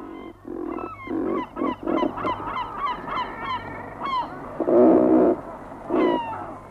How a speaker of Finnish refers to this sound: Sitten menemme viikon luontoääneen. Se on ruokki ja tuon linnun esittelee ….